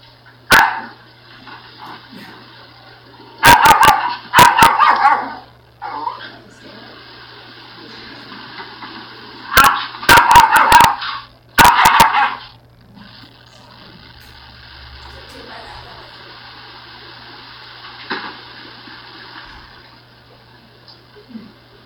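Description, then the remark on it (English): A foster dog barks in loud bursts of several sharp barks at a time, separated by pauses, with a low steady hum running underneath throughout. “Oh, and this is a foster dog.”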